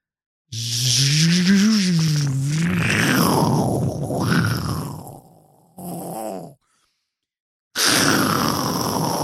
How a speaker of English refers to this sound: Oh, it's like a storm. It's like stormy in there. It's pretty windy. Oh my God. It's got a big fan. Big ass fucking fan.